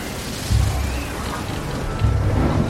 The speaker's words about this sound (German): So ein Sturm auf hoher See bringt selbst die erfahrenen Seemänner an ihre körperlichen Grenzen.